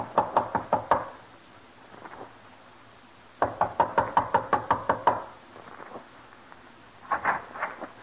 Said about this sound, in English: Knock.